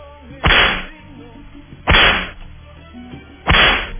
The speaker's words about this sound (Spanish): Se merecen los latigazos también.